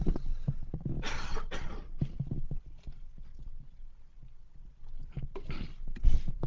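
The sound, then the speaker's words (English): A few short, harsh coughs from someone with a head cold come in two quick pairs. A quieter stretch with scattered low clicks and thumps separates them. No one speaks. “Now, I'm just going to pause here for a little cough.”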